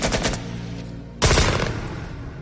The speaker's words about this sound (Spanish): Y oímos unos disparos a nuestra espalda. Miré hacia atrás y vi a dos harapientos del Vietcong disparando con un AK-47.